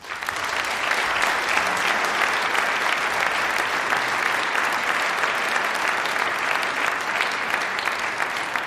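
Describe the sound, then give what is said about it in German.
A sustained round of audience applause in Fulda as Thomas Heiler, head of the city's cultural office, is invited onto the stage, many hands clapping densely and steadily for several seconds at a fairly loud, even level, with no speech over it. “Ich würde Thomas Heiler zu uns bitten, Kulturamtsleiter hier in Fulda und wirklicher Buff der Stadtgeschichte. Ein Applaus bitte.”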